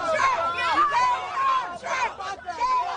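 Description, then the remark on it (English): A crowd of protesters shouts "Go home, Trump" outside a church, many raised voices overlapping in a loud, continuous din, with rhythmic chant-like bursts rising and falling every second or so. “Outside the church, protesters shouting, "Go home, Trump."”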